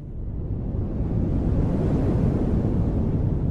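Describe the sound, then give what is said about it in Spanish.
Strong storm wind roars in a steady, dense rumble that swells slightly and holds loud throughout, with no voices. “el viento empieza a soplar muy fuerte.”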